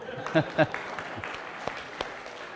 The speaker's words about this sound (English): so we want to give her a hand clap for that.